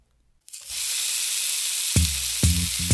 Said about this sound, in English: Do you hear a sizzling sound? What's cooking? Eight fat sausages sizzling in a pan.